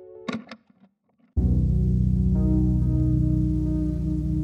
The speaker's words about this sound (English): The result is unexpected, as they hear a peculiar static they recognize as originating from within the networks. And so, with this revelation, the three fools resolve to follow the static into the networks in search of the composite couple.